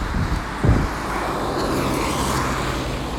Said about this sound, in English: standing by a gas station, fine big cars coming one after another, gleaming, steaming gasoline cars, diesel cars. Yeah, good. Fine, expensive car.